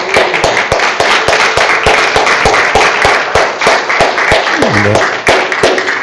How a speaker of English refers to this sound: And so we just want to praise the Lord. Can we give the Lord a hand clap just for...